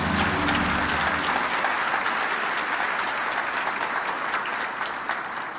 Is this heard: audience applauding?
yes